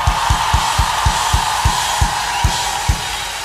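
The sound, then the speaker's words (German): A concert audience cheers and claps in a loud, continuous roar as a band on tour is introduced, with a steady series of deep thumps underneath that gradually slow down, like stomping feet or a bass drum. “Macht mal einen riesigen Applaus!”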